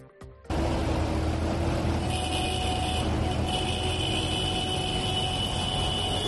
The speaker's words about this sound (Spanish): Así sonaban los tractores en la calle Muro de Francisco de la Mata en Logroño. Han marchado con sus tractores frente a la sede del Consejo Regulador de la Denominación de Origen Calificada Rioja y frente al edificio de la Delegación de Gobierno.